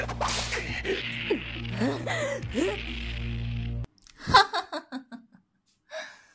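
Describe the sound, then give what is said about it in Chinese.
After a few seconds of breathy, strained vocal noise over a steady hum, a whip, the Snake Whip, lashes with one sharp, loud crack, then a quick run of fading snaps as it wraps around a person's neck, ending in a soft swish. “驯奴灵蛇鞭，给我缠住他的脖子。很灵活嘛，你躲不开本女王的驯兽鞭的。”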